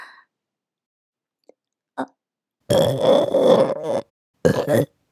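burp

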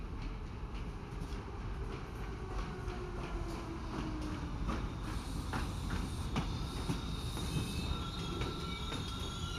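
train arriving

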